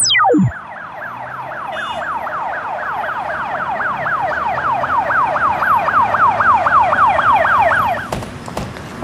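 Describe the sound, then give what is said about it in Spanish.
An ambulance siren wails in a fast, repeating up-and-down pattern, loud and steady for several seconds before cutting off abruptly, with no voices present. “Veo que ya viene la ambulancia.”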